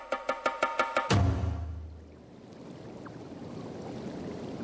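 A swollen river, risen after heavy rains, roars steadily, a dense rushing wash of water that fills the scene after a brief run of rhythmic knocking and a sudden heavy splash.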